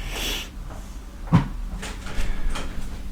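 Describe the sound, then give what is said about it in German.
A person closes a door once during a recording session, a solid thump near the middle, preceded by a brief rustle of movement and followed by faint shuffling and small knocks. “Tür auch noch zu, macht sie auch noch zu.”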